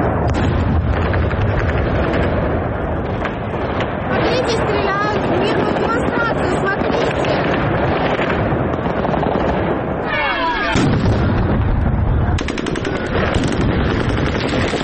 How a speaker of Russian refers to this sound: Это кадры митинга 21 марта в Херсоне. Мирный протест херсонцев закончился силовым разгоном. Российские военные открыли огонь по протестующим.